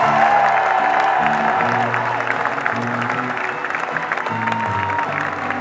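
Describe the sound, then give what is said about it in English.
A concert crowd in Paris applauds the touring crew steadily, dense clapping filling the whole stretch at a loud, even level, with faint crowd noise and a low musical hum sustained underneath. “So big, big round of applause for those people.”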